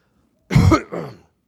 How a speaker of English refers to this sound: Sorry, I'm coughing in your microphone here.